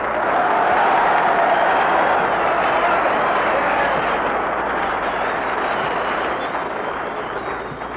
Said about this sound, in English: Darn it, that's more applause than I got.